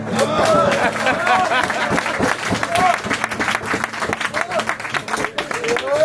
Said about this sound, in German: Applaus!